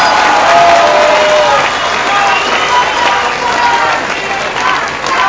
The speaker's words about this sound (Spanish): Un aplauso también para el senador Manuel Bartlett, para Gabriel Biestro, presidente de Morena. Seferino Martínez, del Partido del Trabajo. Y para los dirigentes del Partido Encuentro.